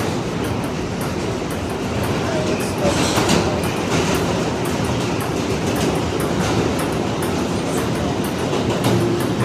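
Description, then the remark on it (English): Steady, loud rumble of a subway train in motion, with rhythmic clattering of wheels on the track and a continuous roar filling the car throughout. “And finally, who among us has not just broken out in a game of ping pong while riding on the subway?”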